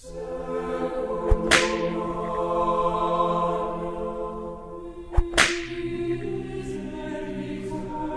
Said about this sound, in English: Every monk and abbot of Canterbury took turns to whip the king without restraint.